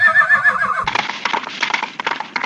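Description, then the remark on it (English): A horse gives a loud, wavering neigh, then hooves break into a quick, steady clip-clop, clear, continuing briskly to the end. “Said the horse and off they went.”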